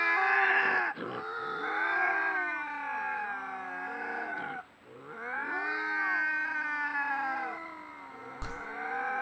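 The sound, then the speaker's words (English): Two bobcats meeting in the wilderness, standing face to face, yowl back and forth in long, wavering, drawn-out cries, overlapping and rising and falling in pitch, with a short pause midway and a sharp thump near the end. “Yeah, these are two big, bad fucking bobcats with yeah. big old ball sacks on yeah. them, meeting in the wilderness.”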